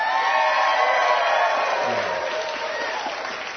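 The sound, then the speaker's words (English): A large church audience stands and cheers as God's word is about to be read, a dense wash of clapping and shouting that holds at a constant loud level, with voices calling out within it. “So ladies and gentlemen, will you stand with me and let's cheer the word.”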